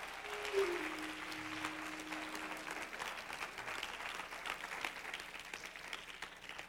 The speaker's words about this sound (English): Hallelujah. Give him a big hand clap.